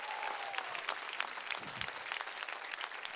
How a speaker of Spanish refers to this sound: Vamos, dale un aplauso bien fuerte.